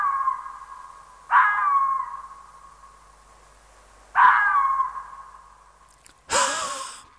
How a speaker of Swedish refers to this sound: Och jag tycker att det skiljer ut sig genom att det låter som om räven har astma. Den astmatiska karaktären tycker jag är ganska tydlig i rävens skall. Hör här.